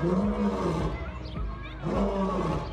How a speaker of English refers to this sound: This would be made considerably worse by the fact that lions can roar about 50 times in 90 seconds. Lions aren't the loudest animal on Earth, but they're still beefy enough to be heard as far as 5 miles away.